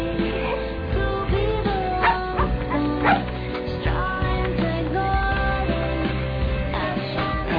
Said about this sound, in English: All right. Just a dog. Right? Come on, Doc.